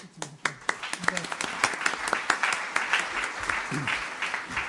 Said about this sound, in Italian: Il cosiddetto applauso preventivo, così.